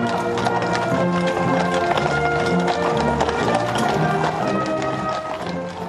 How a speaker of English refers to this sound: Brass band playing, horse hooves clopping, spectators cheering, all part of Emmanuel Macron's arrival in London today. The arrival of the President of France at the start of the state visit to the United Kingdom